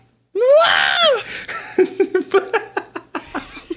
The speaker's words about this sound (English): I didn't expect to scream.